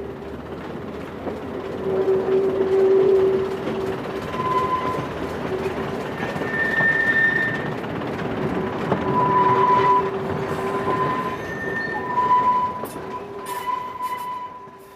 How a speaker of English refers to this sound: But for me, the overriding memory is coming down that escarpment and going over the viaduct with a wheel screaming and the brakes binding.